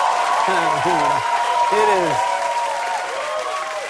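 A crowd yells and heckles at a first campaign event at a Barnes & Noble, over a steady wash of noise and clapping, with several loud, rising-and-falling shouts standing out in the first two seconds before the din continues.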